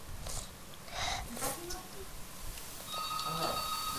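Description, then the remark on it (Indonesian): A phone rings with a steady electronic tone that starts partway through and continues to the end, while people talk in the background. “Telepon.”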